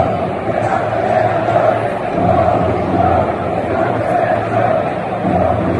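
A huge crowd at the Bernabéu stadium chants and shouts in unison about corruption in the Federation, a loud, dense roar that swells and dips rhythmically for the whole stretch, with no single voice standing out.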